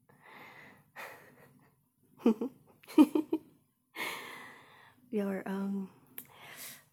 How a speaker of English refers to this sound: Your breathing's getting a bit faster, babe. You're practically panting. Yeah, you are.